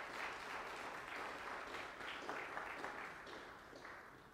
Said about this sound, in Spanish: Dele un fuerte aplauso al Señor en acción de gracias.